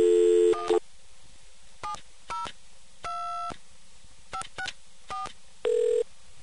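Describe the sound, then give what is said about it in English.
A telephone keypad dialing a toll call to Nevada on a Charge-A-Call phone, not a coin phone: a series of clear touch-tone beeps, some short and some held longer, spaced irregularly with brief silences between them, distinct, with no talking. “First, I'll try dialing a toll call to Nevada, although since this is not a coin phone, I don't think it's going to work.”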